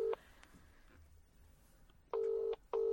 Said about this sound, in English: So let's just give him a little call on the old telephone. I've got my phone.